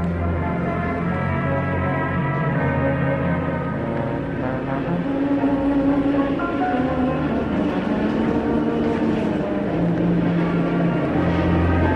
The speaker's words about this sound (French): Ligne 10, station Sèvres-Babylone. Désert, l'endroit n'est cependant pas silencieux. C'est même ce qui frappe le visiteur. On entend au loin les rames bouger, les freins crisser et les portes claquer.